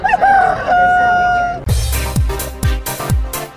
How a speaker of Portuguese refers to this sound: Dentro do Você Online, canta galo.